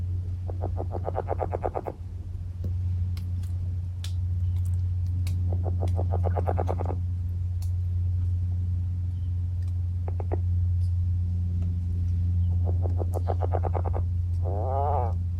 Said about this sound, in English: The native red-legged frog is uncommon and calls primarily while submerged. This is seldom heard because it's very quiet.